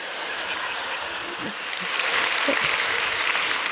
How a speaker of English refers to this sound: I'm getting a lot of claps for donut eating.